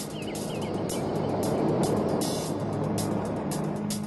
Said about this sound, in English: Three engines up and burning. Three, two, one, and liftoff of Space Shuttle Discovery.